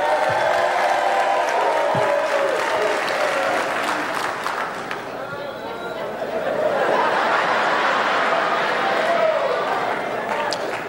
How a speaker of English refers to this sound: Now, did you hear how depressing that shit sounded? Who would ever want to be married with two motherfuckers clapping like that?